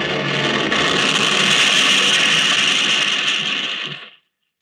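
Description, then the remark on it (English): A plane, its engine hit and on fire, crash-lands on its belly into trees: a loud, continuous roar of scraping, crunching and splintering wood that holds steady for about four seconds, then stops abruptly into silence. No voices. “I was thrown from the plane when we crashed.”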